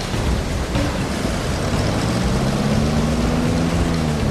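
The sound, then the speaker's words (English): A boat engine revs up as the throttle is opened while heading downstream, its droning pitch climbing steadily over a constant rush of water and wind noise. It's loud, with no one speaking. “But that sturdy hull survives the knock, and now they're heading downstream, they can open the throttle again.”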